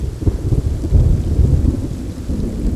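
A heavy thunderstorm with deep, continuous rumbling thunder rolling beneath steady rain, loud throughout, with no voices.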